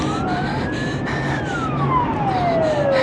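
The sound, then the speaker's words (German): An ambulance siren wails loudly, its tone rising and then sliding steadily downward as the vehicle rushes past, with a constant roar of traffic and engine noise underneath. “Da ist der Krankenwagen! Er kommt aus dieser Crashstraße geschossen!”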